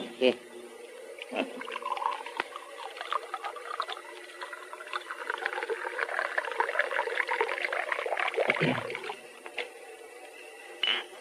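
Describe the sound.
A drink is poured into a glass in a steady, gurgling stream lasting several seconds, rising and thickening as it goes, with a brief splash near the end and faint voices underneath.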